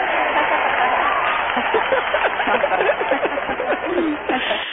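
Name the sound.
cheering and applause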